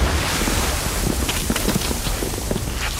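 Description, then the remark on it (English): Steady sea waves wash and roar continuously, heard from a stone tower by the sea, a broad hiss of surf mixed with gusty wind, fairly loud with no voices. “Listen, you can hear the waves.”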